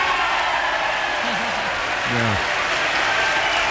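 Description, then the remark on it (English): Sustained, dense applause from the entire joint session of Congress at a 2007 State of the Union address, after the president opens with a tribute to Speaker Nancy Pelosi. It fills the whole stretch at a steady, loud level, with a few brief voices calling out over the clapping. “This is the entire joint session applauding.”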